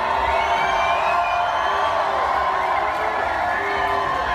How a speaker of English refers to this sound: What are you fucking booing for? You all want to be us. You all want to be us.